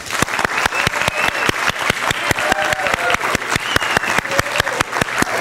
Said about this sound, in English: And we're giving God the glory by the applause, but we're praising you at the same time.